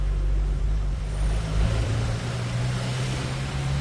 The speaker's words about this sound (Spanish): Y son coches, de hecho caravanas de cientos de coruñeses en coche o a pie que se han acercado al estadio de Riazor para llevar ayudas en forma de alimentos o ropa.